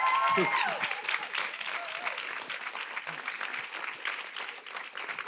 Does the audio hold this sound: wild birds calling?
no